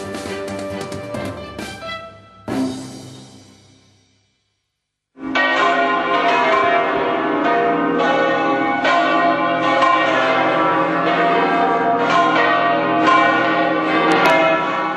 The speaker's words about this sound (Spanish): Las campanas de todas las iglesias han sonado puntuales a las 9 de la mañana para recordar hoy a las víctimas de los atentados terroristas del 11 de marzo de 2004 en Madrid.